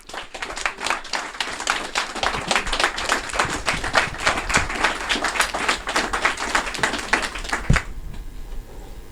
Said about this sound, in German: Danke euch sehr für euer Engagement. Das ist euer Applaus.